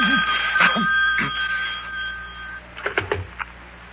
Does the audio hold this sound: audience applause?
no